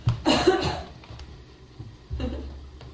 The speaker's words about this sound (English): His heels crashing down on the floor, back arching as he coughs and wheezes.